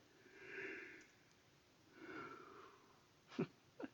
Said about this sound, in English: That wasn't even for effect, that was an actual yawn.